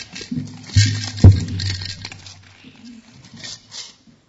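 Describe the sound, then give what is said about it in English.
Coins rattle and clatter inside a container as it is shaken, a busy metallic patter with a couple of sharper knocks early on, fading to lighter jingles toward the end. “You shake the coins in there.”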